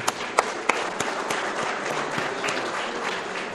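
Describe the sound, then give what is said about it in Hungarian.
Audience applause at a lecture programme: a steady, dense wash of many hands clapping, with a few sharp individual claps standing out at the start, holding at an even level throughout, applauding an organiser and his team. “De azt javaslom, hogy tapsoljuk meg őt és a csapatát.”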